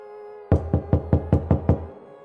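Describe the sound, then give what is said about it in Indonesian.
Seven quick, evenly spaced knocks on a front door at about 11 at night, firm, forming a steady rapid series before stopping, with no voices present. “tiba-tiba dari arah depan terdengar suara ketukan pintu, dan suara itu saya yakini memang seperti suara orang yang sedang mengetuk pintu.”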